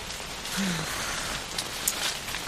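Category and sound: nature, heavy rain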